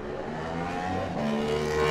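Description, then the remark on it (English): Barry Ferber's DC Motorcycles Yamaha racing motorcycle revs hard and pulls away as he sets off in a race, its loud buzzing whine climbing in pitch as it accelerates, steady throughout with no voices. “Barry Ferber next away on the DC Motorcycles Yamaha, eighth in qualifying.”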